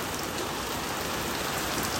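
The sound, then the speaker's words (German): Heavy rain pours down in a steady, dense hiss during a storm that has gone on for hours, drops drumming continuously on a surface with no pauses and no voices. “Oh, ich weiß nicht, ob man es hört, aber hier ist gerade das krasseste Wetter.”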